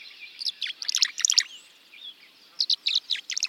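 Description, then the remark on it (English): Bright, liquid tree swallow chirps and twittering calls in quick bursts, two clusters separated by a brief pause, clear with no voices, as the swallows swoop and glide in June sunlight near nest boxes on posts at the edge of a marsh. “Tree swallows glisten in the June sunlight.”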